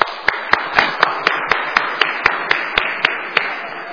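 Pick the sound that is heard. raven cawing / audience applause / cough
audience applause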